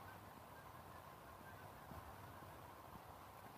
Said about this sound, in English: Some geese.